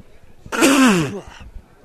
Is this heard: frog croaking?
no